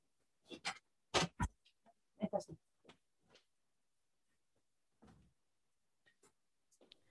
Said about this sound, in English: And sorry, a little break here. I'm opening the door for the aforementioned dogs.